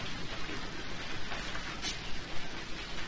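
Steady rain falls with a constant dense hiss across the whole recording, even, with faint patters of drops; no voices are heard.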